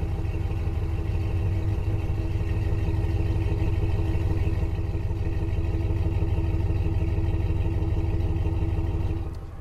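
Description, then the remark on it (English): The 5.3 V8 engine of a high-mileage 2004 Chevy truck idles steadily, heard at the tailpipe: a deep, even rumble with a low throbbing pulse that holds constant for the whole stretch, no voices over it. “This truck's actually a 2004, and it's a Chevy with a 5.3 V8 in it.”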